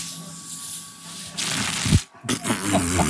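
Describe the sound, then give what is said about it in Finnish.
Shaken bottled water, which had been carried on a fast electric bike ride, gushes out as the cap opens: a sudden loud fizzing hiss and spray, a brief break, then more spluttering foam, with faint voices around it. “Niin tämä vähän nyt niin kuin räjähti meidän syliin tämä koko satsi.”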